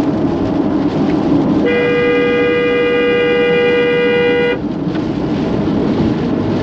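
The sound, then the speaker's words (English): A car horn sounds one long, steady, loud blast lasting about three seconds, honked to move buzzards off the road, over a constant rumble of engine and road noise that continues before and after. “We honked the horn and they moved.”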